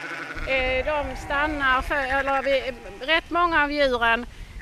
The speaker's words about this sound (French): C'est une race de moutons rustiques en voie de disparition. Pourtant, ils sont parfaitement adaptés à notre climat très rude.